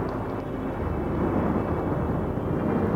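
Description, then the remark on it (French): A deep, sustained rumble of thunder during a storm rolls on steadily, loud and low, without any sharp crack, filling the few seconds with no voices present. “Tu aurais pu attendre que l'orage passe avant de venir me voir.”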